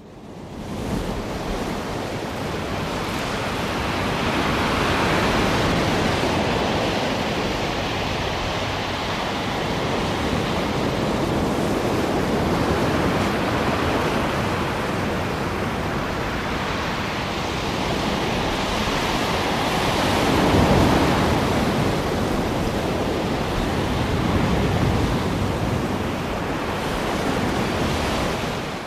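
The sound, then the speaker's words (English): Steady ocean surf rolls on for the whole stretch, a broad washing roar with gentle swells rising and falling, a slightly stronger surge near the end, and no voices at all. “Now, I think about, like, being on the ocean on a boat, surrounded by water.”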